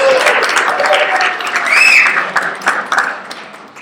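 A crowd applauds in a steady wash of clapping that fades toward the end, with a few scattered whoops and a brief whistle rising above it.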